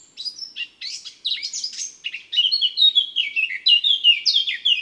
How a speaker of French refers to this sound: le chant de la fauvette à tête noire est agréable.